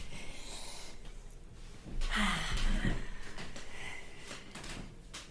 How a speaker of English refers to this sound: So Megan closes the door.